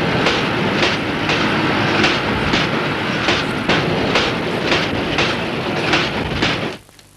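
A train rolls past on rails with a steady, loud rumble and regular clickety-clack beats from the wheels over track joints, then cuts off abruptly near the end.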